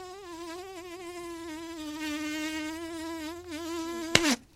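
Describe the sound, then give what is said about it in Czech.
A fly buzzes steadily for several seconds around an older fisherman fishing at the Lipno Reservoir, its drone wavering slightly in pitch, before ending abruptly with a sharp slap-like hit. “Staršího rybáře obtěžovala moucha.”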